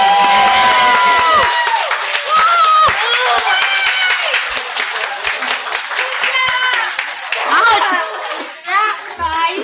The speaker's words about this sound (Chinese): 但他们今天晚上这么勇敢而且表演得这么好，可不可以请大家再给他们拍手一次。